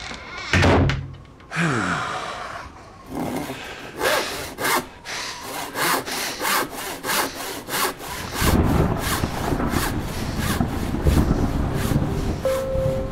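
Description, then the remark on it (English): A saw cuts through wood in steady back-and-forth strokes, rasping and rhythmic, quickening toward the end with a dense grinding rumble as the cut deepens; a few knocks sound early on. “If I start sawing lumps off the great oak of Glandon, I will not be held responsible for what might come to pass.”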